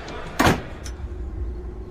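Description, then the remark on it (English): A door out onto a balcony opens with a sharp, loud scraping burst followed by a softer click, over a steady low rumble and no voices. “Right, there's a door over here out onto a balcony.”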